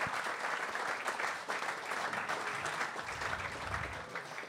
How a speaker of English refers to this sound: Stand up and give this man a round of applause, please, everybody. This guy is brilliant.